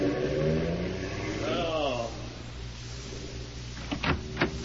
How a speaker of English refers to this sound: Who was that in the car that just drove off? The police.